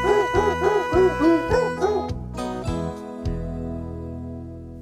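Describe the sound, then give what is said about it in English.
A quick run of pitched, yelping barks follows a tune in steady rhythm over an organ-like musical backing, then gives way to sustained accompaniment with no barking. “I'll play them barking dogs all day, but please don't make me play that grandma song.”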